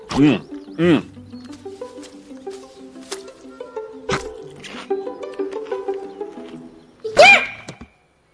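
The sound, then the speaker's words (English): A few short, sharp sneeze-like bursts, called a cute panda sneeze, each a quick voiced puff of breath, with the loudest one near the end, over a steady, faint tonal background. “Dude, that was the cutest sneeze ever.”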